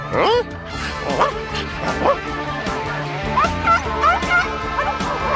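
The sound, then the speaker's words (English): A crowd of dogs yipping, barking and whimpering at once as a dog catcher snatches them up, high excited cries overlapping in a dense, continuous chorus. “The dog catcher was snatching up every dog in sight.”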